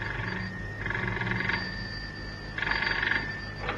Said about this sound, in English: As it was, Cannon had hardly put the phone down in the house in Sloane Street when it rang. It was Ranji Singh on the other end of the line.